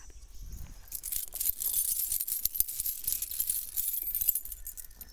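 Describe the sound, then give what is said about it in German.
A pile of coins in a treasure chest clinks and jingles continuously for several seconds, a bright metallic shimmer of many small hits, with no voices. “Wow, so viele Münzen habe ich noch nie gesehen.”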